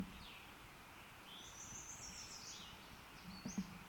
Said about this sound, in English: Second bird off to the side.